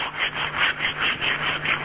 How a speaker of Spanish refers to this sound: ¿Verdad? Es una lija. Sí, una sí. Lija. Podría uno imaginarse la lija. Bueno, una lija que está entonces sacándole lo viejo a las paredes, a las puertas, a todo, porque este es el último salón que queda por arreglar.